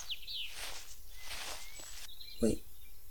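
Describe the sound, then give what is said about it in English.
Faint birds chirp and sing in quiet woods, a few short high calls over a soft wash of rustling leaves, with a brief footstep-like thump near the end. “Can you hear the birds?”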